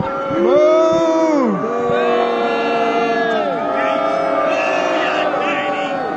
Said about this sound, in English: Here comes the color guard marching their way down the street to chants of boos,